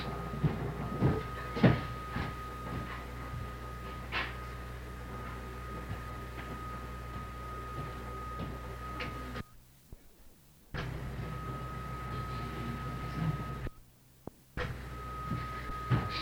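A door being opened, with a few scattered clicks and knocks, the loudest near the start, over a steady low rumbling hum. The sound briefly cuts out twice.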